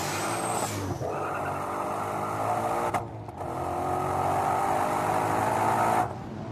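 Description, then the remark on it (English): A turbocharged car engine roars, recorded at the front of the car, its turbos whining as they spool up, with a brief break around the middle before the engine note surges again and holds steady. “The first is the front of the car and you hear the turbos wind up.”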